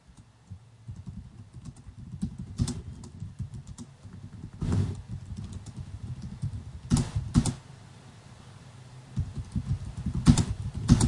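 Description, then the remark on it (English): Steady typing on a computer keyboard, a dense run of soft clicks with a few sharper, louder keystrokes standing out, no voices. “Sorry about the keyboard noises.”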